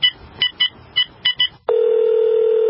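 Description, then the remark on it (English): Six quick touch-tone beeps of a phone being dialed in an uneven rhythm, followed by a steady, loud electronic tone that holds to the end. No voices. “Yes, the good old days when you used the phone just to make a call.”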